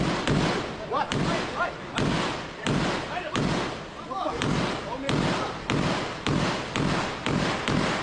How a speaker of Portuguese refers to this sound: Ele foi socorrido pelos colegas sob intenso tiroteio.